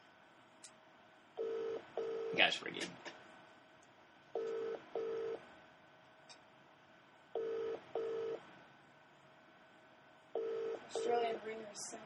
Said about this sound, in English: Australian ringers sound so strange. Yeah. Is that different? It's quite different.